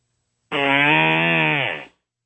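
A single long, buzzy fart lasting over a second, starting abruptly at full loudness and sliding slightly lower in pitch before trailing off. No voices accompany it.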